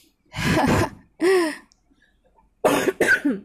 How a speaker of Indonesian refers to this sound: Sorry guys, rada batuk.